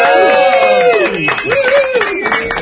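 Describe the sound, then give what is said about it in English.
A big crowd claps and cheers continuously, with dense, rapid applause under rising and falling whoops and a high whistle, loud and sustained throughout. “Well, hey, we've got a big crowd here because today, ladies and gentlemen, we are celebrating our 70th podcast.”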